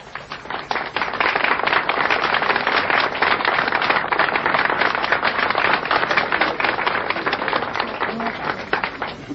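Sustained audience applause after an announcer calls for a round of applause for Jesus Christ, a dense steady wash of many hands clapping at once, fairly loud and even for several seconds before thinning slightly near the end.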